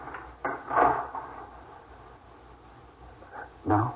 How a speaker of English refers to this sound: Lock the door, dear.